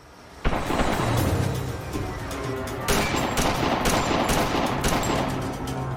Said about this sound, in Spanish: Segundos después, el tiroteo.